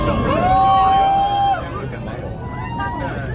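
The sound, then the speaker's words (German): A crowd partying aboard a packed train as it enters a tunnel for the first time, two stations after Murrumbeena station: dense, loud hubbub with a long sustained high cheer or whistle-like tone for over a second, then continued lively chatter and rumble. “Das klingt nach richtiger Partystimmung.”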